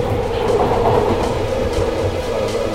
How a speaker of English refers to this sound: This is the Northern Line train by Charing Cross.